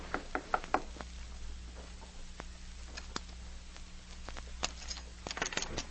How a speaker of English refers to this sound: A few minutes later, Ezra Hitchcock emerged from the express office and went to a room located on the second floor of a nearby building. He knocked on the door.